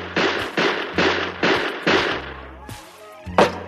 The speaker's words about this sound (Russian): Изворотливый Бик вскинул руку и 12 выстрелами из пистолета продырявил пол чердака.